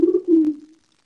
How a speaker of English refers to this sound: And I left my door open. So, like, the screen door's open, and this bird's tweaking out because it can hear another bird.